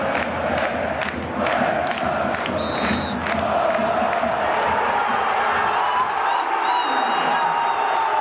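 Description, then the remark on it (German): A dense stadium crowd at an SK Sturm Graz match roars and cheers continuously after the final whistle of the last Bundesliga season game, celebrating the title win, with whoops and shouted voices rising over a steady wall of noise, and a few high whistles cutting through near the start and end. “Eben völlige Ekstase im Stadion.”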